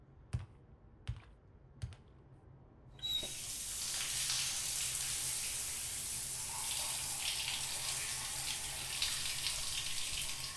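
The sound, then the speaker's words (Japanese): Three sharp clicks sound a second or so apart, then a shower in a shower room bursts on and keeps running as a steady, loud hiss of spraying water with no voices. “こちらがシャワールームとなっております。どうぞお入りくださいませ。”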